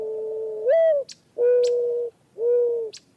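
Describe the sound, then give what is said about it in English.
White-winged doves and mourning doves coo in slow succession, about three or four low, hollow, drawn-out phrases with short pauses between, fairly loud, with brief high whistling flutters at the phrase ends and no talking. “She's accompanied by white-winged doves and mourning doves.”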